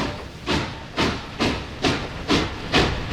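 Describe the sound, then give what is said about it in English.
A steam train chugs in a steady rhythm of hissing chuffs, roughly two per second, growing slightly louder and more forceful as it goes, with no voices. “You can do that with a train building.”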